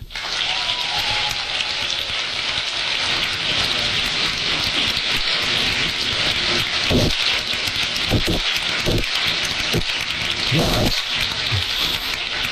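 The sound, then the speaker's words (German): The audience at a Christmas concert by the Neu Wulmsdorf shanty choir de Windjammers in the Lutherkirche in Neu Wulmsdorf applauds in a dense, steady wash of clapping that holds at an even, fairly loud level, with a few low thumps scattered through the second half. “Sie hören die Begeisterung des Publikums im Applaus”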